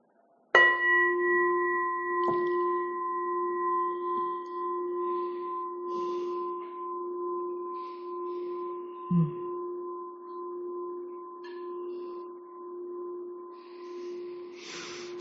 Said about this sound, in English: It's as if the bell is saying, "May it be so." I like that.